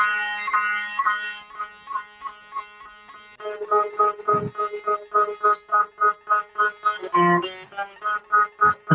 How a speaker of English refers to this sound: That's being played on a sitar for those that watch this and don't want to watch it.